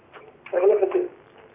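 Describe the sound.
A television plays in the background at a caller's home in Cairo during a call-in show, its muffled, indistinct voices coming through a phone line in a brief, moderately loud burst before fading to low hiss.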